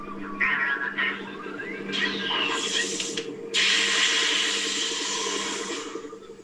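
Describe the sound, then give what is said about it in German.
A sci-fi sound effect of an Imperial probe droid (recon droid) on an ice planet: crackling electronic hiss and bursts of static with sweeping chirps over a steady low mechanical hum, fairly loud and continuous, with no talking. “Hm, korrekt gewesen wäre A, nämlich diese imperiale Probe-Droid.”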